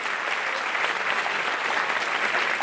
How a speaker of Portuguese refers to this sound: Eu quero que você dê glória a Deus e aplaude ele por isso.